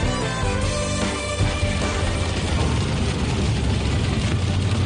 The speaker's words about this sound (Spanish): Es el sonido de las últimas horas, el de la lluvia, especialmente insistente, persistente, en la tarde-noche del día de ayer, interior de Castellón.